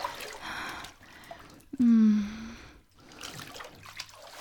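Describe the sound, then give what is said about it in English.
Water trickles and splashes softly and steadily, with a brief voiced moan or gasp rising over it midway. “Do you feel it, even as we are both submerged in the ancient water?”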